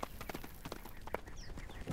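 Horse hooves clip-clop in an uneven rhythm, a series of sharp knocking steps at moderate volume over a faint background hiss, with no one talking.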